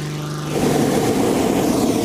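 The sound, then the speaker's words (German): A hot air balloon inflation fan drones with a steady low motor hum as a medium-sized 4,500-cubic balloon is filled with hot air using a gas burner and the fan. A loud, rushing roar swells in after half a second and holds steady to the end, with no voices. “Danach wird der Ballon mit einem Gasbrenner und einem Ventilator mit heißer Luft gefüllt.”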